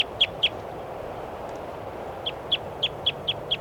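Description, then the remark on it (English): Recording of bird number 414: a bird gives sharp, high-pitched chirping calls, a quick burst of three, then a pause, then a steadier run of six or so evenly spaced notes over a constant low background hiss. “Start recording bird 414.”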